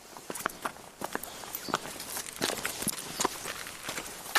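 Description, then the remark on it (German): Steady footsteps walking a few steps down the Warmstraße in Lübeck's old town and through a small passage to Durchgang 46, a regular rhythm of crisp steps on a hard street surface over faint outdoor background noise, with no talking. “wir sind ja mit dir jetzt ein paar Schritte die Warmstraße runtergegangen und durch einen kleinen Gang zum Durchgang 46 gegangen.”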